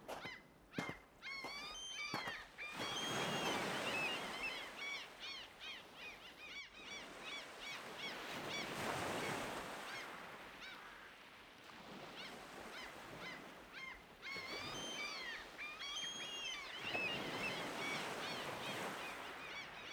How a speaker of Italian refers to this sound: Presto ci sarà tanta gente e ne approfitti per godere della pace offerta dalla natura, del suono delle onde e delle grida dei gabbiani in lontananza.